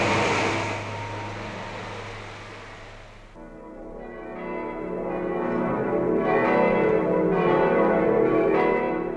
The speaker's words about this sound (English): Germany greeted you in sound, in the church bells that sang through every city and village each Sunday morning.